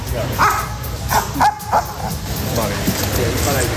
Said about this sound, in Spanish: Hemos podido escuchar también en esos trabajos de los perros algún ladrido más fuerte que otro, como vas a escuchar ahora.